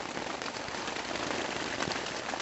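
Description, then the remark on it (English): Heavy monsoon rain pounds thin tent fabric at a campsite in northern Arizona in a dense, steady roar of countless drops, loud and unbroken, with faint sharper patters flickering through the wash. No voices. “Where it was sunny just 30 minutes before, rain now battered the thin tent fabric.”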